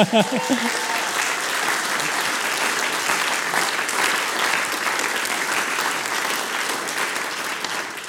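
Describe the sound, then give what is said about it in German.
A crowd claps for a group of five girls from a music school in dense, sustained applause that holds at an even loudness for the whole stretch, with a brief voice-like sound at the very start. “Und das ist der Fall, der Applaus bestätigt.”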